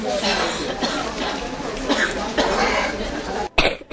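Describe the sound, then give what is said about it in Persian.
Loud chesty coughing from a person with a cold, in a rapid run of harsh, rattling bursts, then a brief gap and one more rough cough at the end. “آخه چه سینه ای.”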